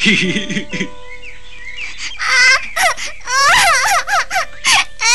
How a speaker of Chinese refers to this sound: 拇指姑娘听到癞蛤蟆的话，吓得哭了起来。